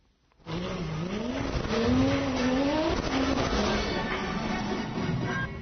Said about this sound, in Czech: Automoto spektakl u organizaciji Red Bulla na Trgu Republike, Formula 1 u Beogradu, prvi put posle 1939. godine. Na sceni slavni David Coulthard, pobednik u 13 trka Formula 1, vozio je bolid Sebastijana Fetela